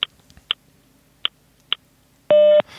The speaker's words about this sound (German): Wir alle kennen die Zeitansage. Die sagt uns beispielsweise die Zeit an. Das klingt dann so. Beim nächsten Ton ist es 12 Uhr 14 und 0 Sekunden.